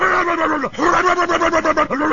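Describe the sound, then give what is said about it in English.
A man's voice imitates a dog with a loud, rough, growly whine that wavers up and down in pitch for about two seconds, broken by one brief dip, with no other talking. “That kind of sounds like a dog.”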